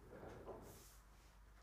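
A door opens or closes nearby, a short, muffled rumble followed by a soft airy swish, fairly quiet with no voices present.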